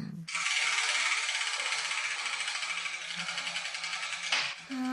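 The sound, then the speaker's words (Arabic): A lottery drum is spun steadily for several seconds to pick the ball with the letter of the day, its balls rattling and clattering in a dense, continuous mechanical churn that stops abruptly near the end, with faint voices underneath. “إذن ابدأي بتحريك الدولاب ولنرى أي كرة تسقط منه.”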